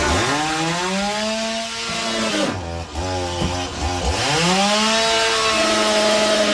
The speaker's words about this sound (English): The latest example, Team USA beats Team Canada, and some Canadian fan of Team Canada decides to take a chainsaw to his television.